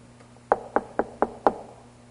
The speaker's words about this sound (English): And then one day he comes knocking on your door.